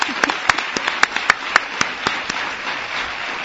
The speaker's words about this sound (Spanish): Gracias. Un aplauso para ella, la primera invitada al Espacio en Blanco.